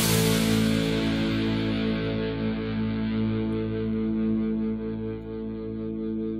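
A ska punk band plays a cover song loudly, with heavily distorted, effects-laden guitar sustaining thick chords that ring on after a bright crashing start; no vocals come in during this stretch.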